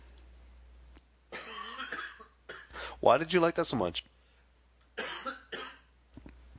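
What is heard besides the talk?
small coughs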